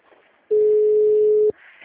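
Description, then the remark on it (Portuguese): A single steady, mid-pitched telephone line tone sounds loudly for about a second, then cuts off abruptly, with faint background noise before and after it. The phone line at Força Lusa is malfunctioning and calls are not reaching the extension. “O telefone lá tá tudo doido, não passa o ramal.”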